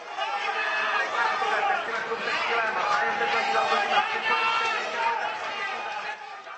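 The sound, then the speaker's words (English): A large crowd, including many foreign racing fans, chatters steadily at the Velká Pardubická horse race in Pardubice; many voices blend into a dense, continuous murmur with no single speaker standing out, evenly loud throughout. “Once again, this year's Velká Pardubická was attended by huge crowds, including many foreign racing buffs.”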